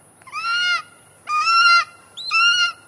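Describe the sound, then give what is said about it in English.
A golden eagle calls three times, each a loud, sustained, reedy cry with rich harmonics, separated by short pauses. No one speaks over it. “Let's let the golden eagle illustrate.”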